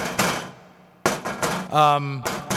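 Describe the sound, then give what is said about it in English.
Several sharp, loud knocks on a door come in short bursts with pauses between them, broken up briefly by a short tonal, voice-like sound before the knocking resumes. “Someone at the door.”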